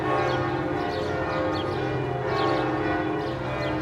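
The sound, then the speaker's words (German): The large bells of Notre-Dame cathedral in Paris ring together in a dense, continuous peal, their overlapping tones and long resonance filling the air with no pauses and no voices. “Das sind die Glocken von Notre Dame.”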